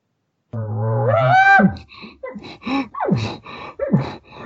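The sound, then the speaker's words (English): A short bugle tone blown on a game call rises in pitch for about a second, then breaks into a string of quick, squealing chirps and mews with no talking. “He'll just make little stuff like that, and sometimes I'll make him even shorter or a little longer, but I'll play with that little bit of a bugle tone.”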